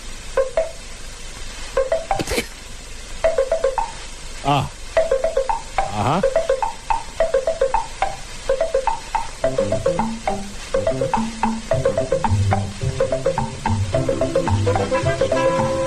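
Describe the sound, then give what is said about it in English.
A Maxwell House coffee pot perking away, brewing ground coffee: a steady run of rhythmic bubbling pops and gurgles with tuneful, plinking tones mixed in, growing busier toward the end, with a brief murmured voice near the start. “Listen to the sound of the Maxwell House coffee pot at work.”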